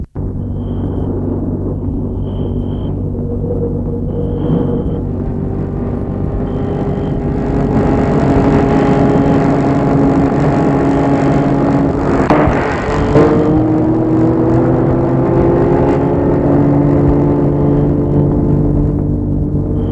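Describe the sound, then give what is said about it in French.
A large black car's engine hums loudly and steadily, then picks up and builds as the car pulls off with three boys inside, with a brief rumble partway through. No voices are heard. “Les trois garçons entrent dans la voiture et partent.”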